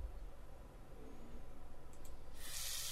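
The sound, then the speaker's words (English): A river rushing through a forest, a steady, continuous low, churning wash of water that swells into a brighter, hissing spray toward the end. No voices. “Nope. That's not a faucet. That's a river rushing through the forest.”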